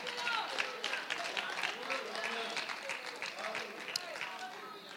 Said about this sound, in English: That's a good time to clap your hands and thank God.